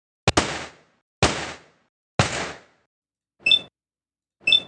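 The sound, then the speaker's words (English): Three loud gunshots ring out about a second apart, each with a short decaying tail, followed by two brief, buzzy electronic beeps with a bright, high tone. No one speaks. “So we're going to start this off with three gunshots and three beeps and boops, because we're talking about the Brotherhood Outcasts.”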